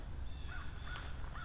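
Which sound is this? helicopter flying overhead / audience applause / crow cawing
crow cawing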